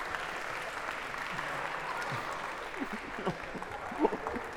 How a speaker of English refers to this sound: Well, how about why don't we each take a bite and a round of applause if we could for our volunteers.